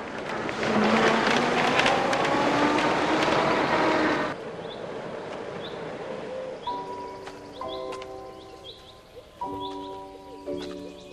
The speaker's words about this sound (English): The chauffeur backs the car out of the drive.